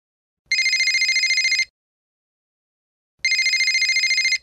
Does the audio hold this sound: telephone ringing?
yes